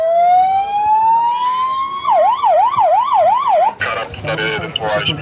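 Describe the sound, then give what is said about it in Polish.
A fire truck siren winds up in a long rising wail, then switches to a fast, regular up-and-down warble before a harsher, louder blaring burst takes over at the end. “Wsiąść do wozu strażackiego i włączyć sygnały.”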